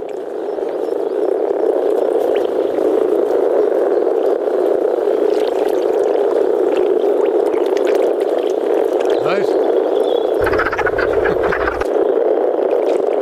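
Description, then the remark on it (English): A dense chorus of European common frogs croaking in Ireland, a low rumbling purr of many overlapping calls, steady and loud throughout with no talking. “Well, there isn't such a thing as an Irish frog, but the frogs that we have here in this country are European common frogs. And this is what they sound like, thanks to Colly Ennis.”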